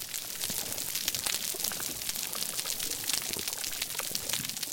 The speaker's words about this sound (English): If Julius hadn't described this recording to me, I probably would have never guessed that those crackles were coming from a vibrant coral reef.